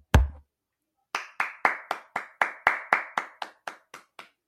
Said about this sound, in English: Just wanted to give a big round of applause and a big congrats out there to all the Michigan State fans.